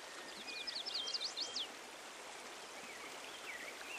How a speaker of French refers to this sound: Et regarde le ciel. Peut-être entends-tu le chant des oiseaux?